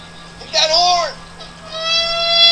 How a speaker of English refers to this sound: Gotta get a new horn!